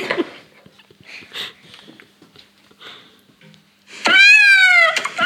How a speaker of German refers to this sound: Das war eine Katze. Richtig.